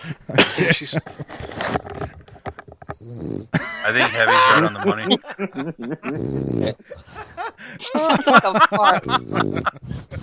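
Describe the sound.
A pet dog named Zool snores in the background, low rasping breaths recurring faintly beneath people talking and laughing.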